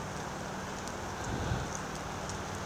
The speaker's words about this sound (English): Perhaps you can hear the patient drip drip of the tree rain since we're under the canopy. It's not heavy rain, it's just the tree rain. As the water drops off the leaves and falls to the ground.